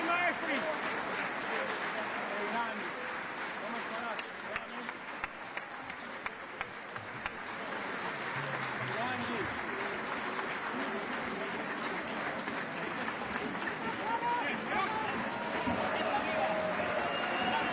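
A large standing audience applauds steadily and loudly without pause at an opera premiere as the performers return toward the audience, a dense wash of clapping with scattered voices and cheers mixed in, sustained from start to finish.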